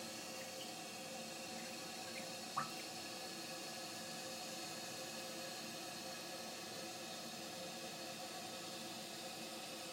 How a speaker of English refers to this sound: just changed one little tiny component on this down, on this upstairs toilet, and the speed at which this fills is unbelievable. I can't quite believe it myself, but there you go.